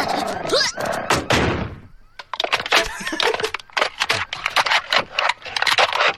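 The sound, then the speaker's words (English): A paper-thin corrugated tinfoil door bangs and rattles over and over as Bart escapes from hounds, a loud crashing burst followed by a rapid, irregular series of tinny clanks and thuds. “Those are like paper-thin, tinfoil, corrugated tinfoil doors.”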